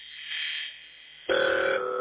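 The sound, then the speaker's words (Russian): A steady hum over a telephone line: faint hiss and noise at first, then a loud, constant droning tone comes in partway through and holds to the end, with no voices. “То есть гул идет, да?”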